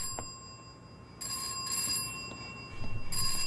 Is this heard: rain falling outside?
no